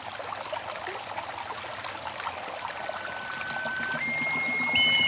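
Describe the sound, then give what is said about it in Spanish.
Steady rushing water of a waterfall pours and splashes continuously into a river, its water coming from filtrations of the Zempoala lagoons; a dense wash of sound that swells slightly louder toward the end, with faint high tones sliding in during the last seconds. “y su gran amor, el joven guerrero, que abatieron por la espalda en batalla, fue transformado en el río sobre el que cae el agua cristalina, juntando sus almas para toda la eternidad.”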